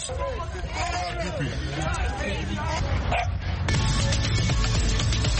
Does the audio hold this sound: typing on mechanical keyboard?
no